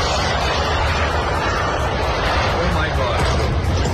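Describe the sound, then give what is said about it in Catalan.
An Iranian Shahed kamikaze drone flying, a triangle-shaped drone about 3 metres long carrying an explosive, made by a company run by the Revolutionary Guard; its engine is a steady, loud, rough buzzing roar that holds without a break for the whole four seconds, with no voices. “Els drons iranians, com aquest que sentim, es diuen Shahed.”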